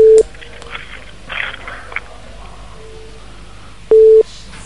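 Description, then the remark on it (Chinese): Two loud, steady electronic telephone beeps, one at the start and another near the end, separated by a quiet stretch of faint line noise and soft clicks, on a phone call that has just been transferred and stays connected. “麻烦了，这个电话不断的，所以有嘟嘟嘟声音的。”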